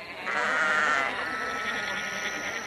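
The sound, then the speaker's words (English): A sheep bleats in one long, wavering cry that swells early and then trails off while still quavering, clear with no voices. “Is Mary to give birth in a cold stable, surrounded by sheep?”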